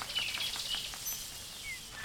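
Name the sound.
treecreeper call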